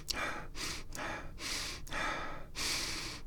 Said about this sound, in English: I'm just sticking my nose in the tea filter and breathing. Oh, it smells so good. It's not even funny.